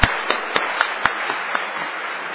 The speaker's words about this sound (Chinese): 那个便掌声给鼓励啊，多谢伊哦。